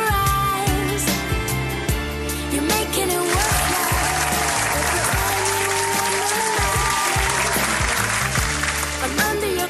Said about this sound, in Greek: ένα χειροκρότημα και φεύγουμε.